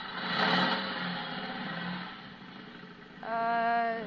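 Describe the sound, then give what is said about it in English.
A motorcycle engine roars, idling rough and loud, then revs sharply near the end with a rising, whining tone. No one speaks. “Somebody must have given him a motorcycle.”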